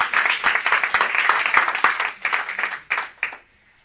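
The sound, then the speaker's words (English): An audience applauds a young girl who was baptized, a dense burst of many hands clapping that holds steady for a few seconds, then thins to scattered claps and stops. “Would you give a clap offering to this girl?”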